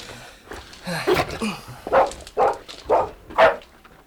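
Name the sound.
dog barking excitedly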